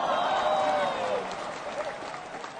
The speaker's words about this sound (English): January 26th, we have been asked back to the Laughing Skull to do another Comedy the Game Show. Yes, cue the applause.